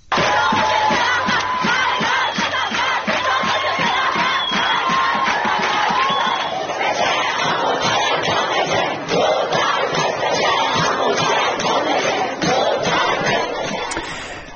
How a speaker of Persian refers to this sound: یکی از مهمترین اتفاقات در دانشگاه الزهرا در تهران، یعنی روزی که ابراهیم رئیسی، رئیس جمهوری اسلامی، به آنجا رفت، صورت گرفت. بخشی از اعتراض دانشجویان به رئیس جمهوری اسلامی گوش کنیم.